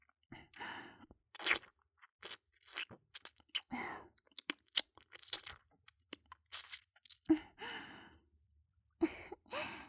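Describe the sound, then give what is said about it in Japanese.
Wet ear-licking and mouth sounds in irregular bursts, soft and intimate with moist smacks and breathy sighs mixed in, no talking. “ではこっちの舐める方でしてあげるね。”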